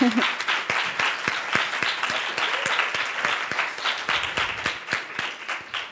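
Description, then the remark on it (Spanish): Steady applause from an audience at ITESO for invited guest José Antonio MacGregor, a dense wash of many hands clapping with sharper individual claps standing out, sustained at a fairly even loudness throughout. “Y bueno, pues por eso es que hemos invitado a José Antonio MacGregor, para quien le pido un fuerte aplauso, por favor.”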